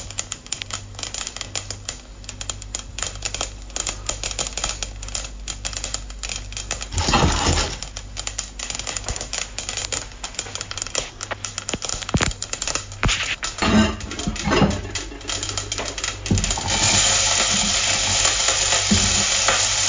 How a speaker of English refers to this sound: Now, using a little of whatever fat or oil you have, I personally use coconut oil, heat the mustard seeds until they make a popping noise, like this.